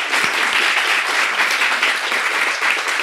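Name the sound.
round of applause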